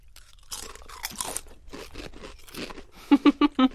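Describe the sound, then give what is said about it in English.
Crisp, crackly crunching of chips being chewed, a steady run of brittle snaps that ends with four loud, evenly spaced crunches in quick succession. No one speaks. “In the same way that I would never mix these cocktails in real life, these chips do not need to be mixed.”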